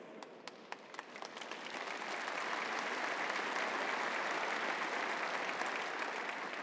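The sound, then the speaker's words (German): Audience applause that begins with a few scattered claps, then swells within two seconds into steady, dense clapping from a large crowd that holds at an even level to the end. “Applaus”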